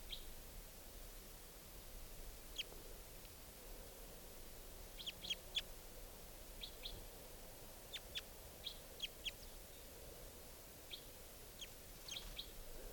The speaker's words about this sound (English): So recording, I've been playing extensive playback. And the bird's still here. But it's not coming down. This is the wild bird.